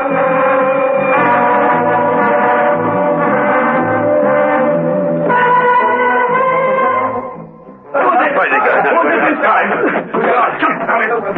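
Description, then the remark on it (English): Warning alarm bells ring loudly to signal a prisoner escape, in steady, sustained tones that shift pitch in steps, then briefly drop away before a harsher, noisier clamor bursts in and continues. “Steed heard the warning bells.”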